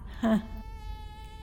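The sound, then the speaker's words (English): A mosquito whines indoors, a thin sustained buzz with a louder swell near the start before settling into a steady, high-pitched hum that continues to the end. “There's a mosquito in here.”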